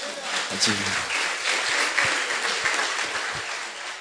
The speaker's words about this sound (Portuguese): Todas as palmas são para Jesus aqui, né?